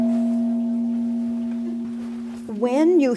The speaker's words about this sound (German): Wenn du einen Gong schlägst, ist das brutal. Aber der Klang kann sehr schön sein. Dieses Geschehen war brutal, aber der Klang der Harmonie war sehr schön. Ein Gong und ein tägliches Gebet.